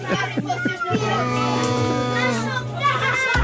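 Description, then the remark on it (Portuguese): A lively group of children chattering and calling out together in a radio studio, their overlapping high voices energetic, with a steady low hum underneath throughout. “Eram muito, tinham muito andamento estes miúdos.”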